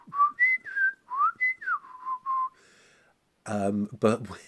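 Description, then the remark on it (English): Clear whistling in short, rising and falling phrases that mimic speech, imitating the penny-whistle voices of the Clangers puppet characters, followed after a brief pause by a voice. “The clangers were voiced using penny whistles, so they were kind of like...”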